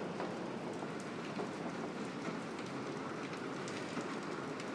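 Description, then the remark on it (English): Steady rain pours down continuously in the evening, a dense, even hiss with scattered patters of drops hitting surfaces. No voices, just the constant wash of rainfall. “Rain, rain.”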